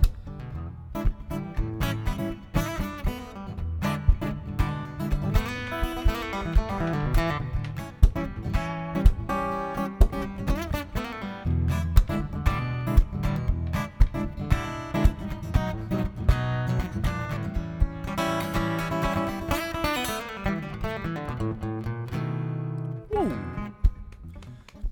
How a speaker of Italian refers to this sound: Intanto stiamo ascoltando una base musicale in diretta da Marco Di Martino sì, che ci sta suonando e deliziando con la sua chitarra.